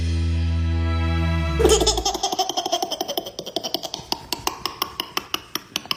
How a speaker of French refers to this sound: Un peu de douceur dans ce monde de brut avec ses rires de bébé.